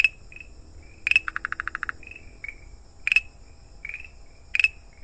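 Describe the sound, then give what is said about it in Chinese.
A Zhuluo tree frog calling: sharp clicking notes, one quick run of about eight rapid pulses, and shorter chirps, repeated several times over a quiet background with no talking. “对啊，虽然啊，我们可能没看过侏罗树啊，但是它的叫声常常会在下雨后出现哦。”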